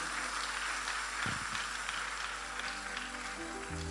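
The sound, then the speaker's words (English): A church audience gives the Lord a clap of praise, a dense, steady wash of many hands, continuous for the whole stretch with no clear individual beats, fairly soft and even in loudness. “Give the Lord a better clap of praise.”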